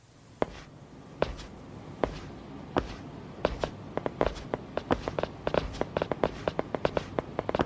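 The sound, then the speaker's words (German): Four people walking together in a video game, their footsteps overlapping in an irregular patter of sharp steps that grows busier and denser toward the end, with no talking. “Des Rätsels Lösung, das sind Schrittgeräusche. 4 Mann laufen da ein bisschen durch die Gegend”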